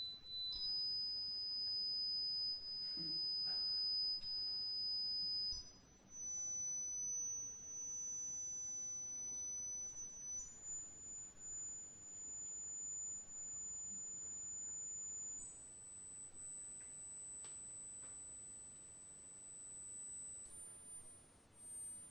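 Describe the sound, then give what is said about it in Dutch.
A steady, piercing high sine tone used for a hearing test, holding each pitch for about five seconds before stepping higher, rising in four or five jumps to a very shrill whine over faint background noise. “Dus om de 5 seconden zal de hertz naar boven getrokken worden.”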